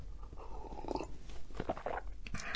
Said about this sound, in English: I tried not to slurp, but I did anyway.